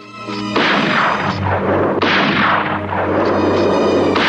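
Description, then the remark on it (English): Two loud rifle gunshots fired in snow, roughly a second and a half apart, each a sharp crack that rolls into a long, rumbling echo. No one speaks. “Bowen hears the shots and sets off.”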